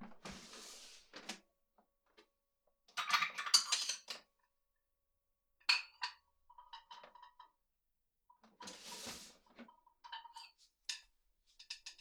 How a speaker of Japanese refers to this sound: 食器持ってくね。確か食器は、あ、ここだ、ここ。